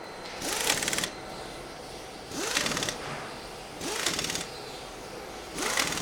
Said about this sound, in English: Now pick up your wheel gun again and tighten up the wheel nuts.